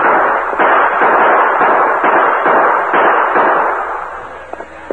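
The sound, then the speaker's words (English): A loud volley of gunfire, with many shots overlapping into a dense, crackling barrage that pulses roughly twice a second and holds steady for several seconds. No voices are heard. “Another volley.”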